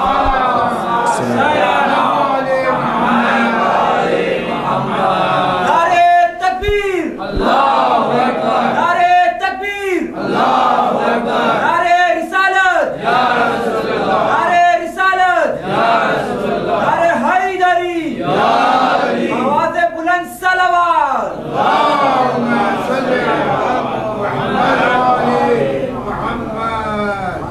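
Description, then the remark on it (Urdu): A large crowd chants a salawat on Muhammad together in unison at a preacher's call during a religious speech, loud and continuous, with rhythmic rising phrases repeating every few seconds over a dense wash of many voices. “صلوات پڑھے محمد.”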